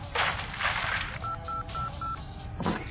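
phone keypad dialing tones

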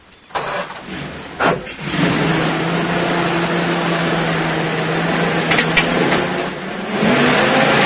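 car driving off

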